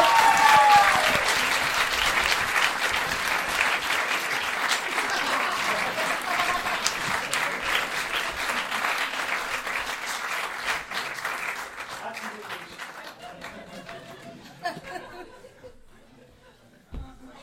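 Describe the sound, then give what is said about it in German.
An audience applauds a question with steady, dense, sustained clapping, scattered laughter and chatter, loud at first and slowly fading over about seventeen seconds until only a few claps remain. “Also ich bringe dir das mal, einen Applaus für die Frage.”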